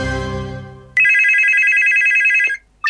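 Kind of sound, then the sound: signal or alarm, telephone ringing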